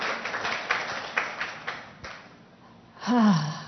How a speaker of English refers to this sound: Praise God. Let's just give the Lord a round of applause. Thank you, Jesus. Thank you, Lord. Praise God.